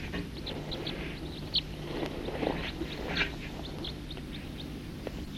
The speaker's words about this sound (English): Here's some other birds flying over.